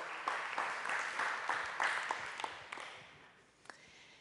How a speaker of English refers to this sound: I sometimes clap to say thank you for teaching us. So thank you for teaching us.